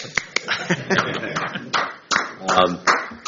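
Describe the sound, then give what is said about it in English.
A few light, scattered hand claps at a board meeting for a 20-year service award, slow and uneven, with sharp separate smacks spread across a few seconds over a low murmur of background voices. “Call clap.”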